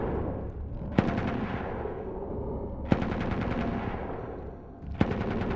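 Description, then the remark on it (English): A machine gun fires a sustained blast through an opened gate in a long tunnel, over a dense, continuous roar of gunfire, with sharp loud cracks standing out about every two seconds. No voices are heard. “Once the gate is open, the machine gunner lets a sustained blast while flares are thrown into the darkness.”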